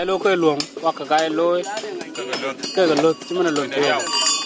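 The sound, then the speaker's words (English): Cow bells clink and clank in scattered metallic taps beneath steady speech, the voice running nearly the whole time while the bright knocks punctuate it; the bells are made for cattle in Rumbek, South Sudan. “I'm producing bells for the cows and some spears that are luxury.”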